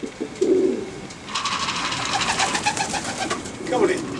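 Pigeons coo, two low throaty burrs at the start and end, with a stretch of brighter fluttering, chirpy bird noise in between.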